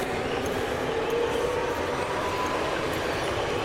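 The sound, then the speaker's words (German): A subway train rumbles steadily, a dense continuous roar with faint metallic squealing tones drifting through it, and no voices. “Ja, das liegt auch nur daran, dass die beschissene U-Bahn irgendwie was später kam.”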